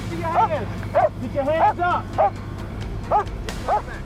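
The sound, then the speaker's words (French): A police dog, working with its handler to track down a suspect, barks repeatedly, about seven sharp, fairly loud barks at irregular intervals over a low background rumble, with brief gaps between bursts. “Un maître chien et son animal réussirent à le traquer.”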